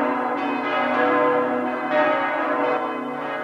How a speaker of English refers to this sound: Let night come on, bells end the day.